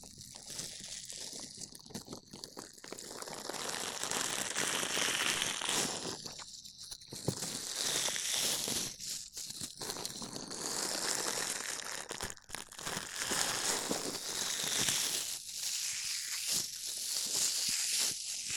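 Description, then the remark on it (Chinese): A dish sponge rubs and scrubs against the microphone in a steady, scratchy, crinkling texture, with brief pauses and swells in loudness throughout. No one speaks. “放心啦，洗碗棉很舒服的。拿给你试试，准备好了吗？”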